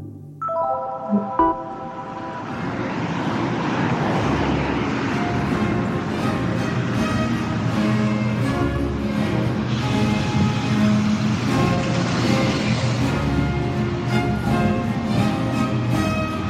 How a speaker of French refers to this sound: Là, j'attends le bus pour Versailles. Je vais jouer là aujourd'hui avec le théâtre du Cristal à Versailles. Ça va vraiment être une super représentation. Et voilà, là j'attends le bus et il arrive dans 5 minutes.